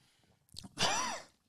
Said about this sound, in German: Huch, das war kein Huster, weil es so schlecht war oder so zisselig oder zissel mich, sondern weil ich mich ein bisschen verschluckt habe einfach.